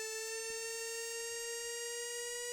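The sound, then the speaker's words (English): An alarm rigged on a gas detector by Leon sounds as a continuous, buzzy electronic tone, its pitch changing as a hand moves closer to the installed sensor; here it holds one fairly steady pitch for the full two and a half seconds, with no voices present. “Once he had the alarm rigged on this gas detector, he was curiously excited to discover that as he put his hand closer to the sensor that he had installed, the pitch of the alarm changed.”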